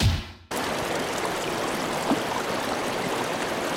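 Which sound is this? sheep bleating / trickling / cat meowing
trickling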